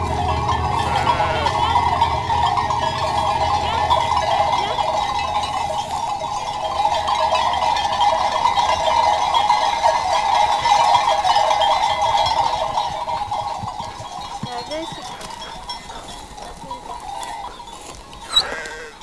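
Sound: flock of ewes bleating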